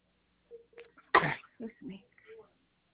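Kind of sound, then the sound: human body sound, sneeze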